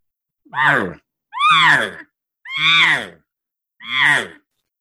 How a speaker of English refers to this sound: For years, we've been told that that is the estrus buzz. That is when a cow is in estrus and she is absolutely ready to breed. My response to that is hogwash, because I've heard cows do that in July. I've heard them do it in January.